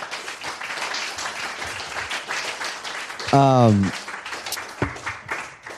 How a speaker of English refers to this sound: You guys are amazing. Huge round of applause for these guys.